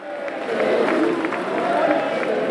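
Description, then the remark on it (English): A large crowd at a French far-right political rally for Jordan Bardella chants "This is our home" together in unison, loud, with rhythmic bursts of massed voices and a wash of cheering noise underneath throughout the short stretch. “This is our home, chants the crowd.”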